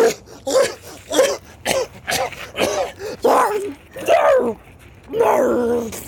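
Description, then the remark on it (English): A voice acts out Sméagol spitting out a nibbled corner of lembas bread, followed by a ragged fit of coughing: about eight rough, throaty, voiced bursts in uneven rhythm, fairly loud, with no words spoken. “He spat, and a fit of coughing shook him.”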